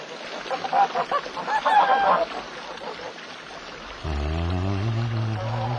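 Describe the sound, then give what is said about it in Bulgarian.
A goose honks repeatedly in quick, agitated bursts for a couple of seconds, then the calling fades and a low, steady droning tone takes over. “Защо гъсо кракаш така и плашиш гъски?”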